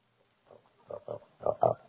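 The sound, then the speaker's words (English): A pig named Cleopatra grunts in a short series of about five snorty bursts, growing louder and more insistent toward the end, with no talking. “Have you fed the pig yet?”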